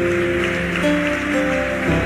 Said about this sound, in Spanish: Denle un fuerte aplauso al Rey de Gloria.